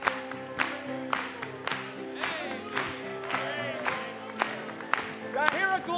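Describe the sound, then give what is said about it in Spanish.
An audience claps together in a steady, even beat, roughly twice a second, over sustained music and a swell of voices and cheers. “Vamos a aplaudirle.”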